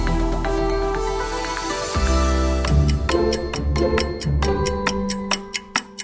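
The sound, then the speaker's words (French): A steady, evenly spaced clock ticking, crisp and close, enters partway through and continues over a low sustained musical drone, growing more prominent toward the end. “L'horloge tourne, moins de 15 jours encore avant le Bundestagswahl, les élections allemandes du 26 septembre.”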